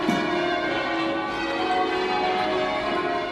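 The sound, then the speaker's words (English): Many church bells ring together in a dense, continuous wash, their overlapping tones and shimmering overtones blending into a steady, loud chorus with no pauses and no voices. “the undertones, the overtones and harmonics that are generated when a lot of bells are being played together, and sometimes you just feel like you're showering under thousands and thousands of bells.”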